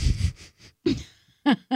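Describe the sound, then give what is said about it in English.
Heavy breathing through the nose of a person with a deviated septum, with a wheezy, nasal edge: several rough breaths in quick succession, followed by two short, sharper wheezing bursts with a strained, squeaky tone. “You have heavy a deviated breathing. Septum.”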